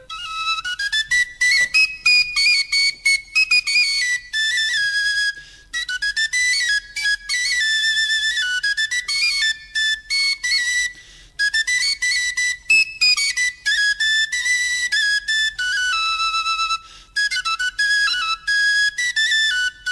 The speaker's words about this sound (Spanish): Hay otras flautas hechas con hueso, que no son tan antiguas, por ejemplo, con una que es bastante conocida, que es una flauta de hueso de ala de un buitre.